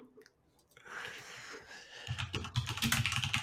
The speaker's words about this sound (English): There it is. There's a classic keyboard.